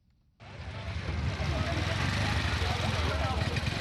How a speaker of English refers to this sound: It's around 1 p.m. on Tuesday. We are on the Rwanda-DR Congo border. Traffic is heavy as usual, but the checks at the crossings have increased because of the Ebola virus.